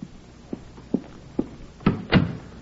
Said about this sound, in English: Annie, close the door. Close it.